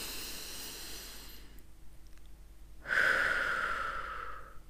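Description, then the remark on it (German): A deep breath drawn in with a soft, airy rush, a brief quiet pause, then a stronger, louder breath out, with no talking, taken as part of a guided breathing exercise. “Und dann atme nochmal tief ein und aus.”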